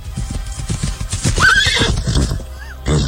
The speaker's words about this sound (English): There he goes, on his beloved horse, Artax.